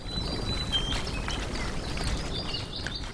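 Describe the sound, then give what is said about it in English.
Birds sing at sunset in the Limbe Botanic Garden in southwestern Cameroon, with thin, high whistles and chirps scattered throughout, set against a steady wash of outdoor background noise. No one speaks. “The sun is setting and the birds sing as I arrive at the Limbe Botanic Garden in southwestern Cameroon.”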